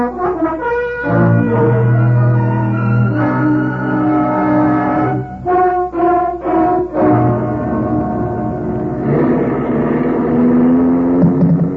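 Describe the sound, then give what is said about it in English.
A car engine drones steadily as it drives, its pitch climbing and falling with a few quick dips and surges midway, then settling into a higher, steady hum. No one speaks. “Very well. I'll drive you.”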